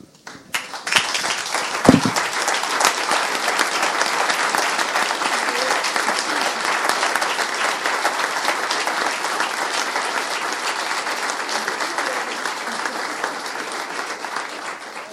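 Loud, sustained applause from a municipal council audience, standing to congratulate three new aldermen on their coming four-year term, many hands clapping densely and steadily for about fifteen seconds after a brief low thump at the start, with no speech over it.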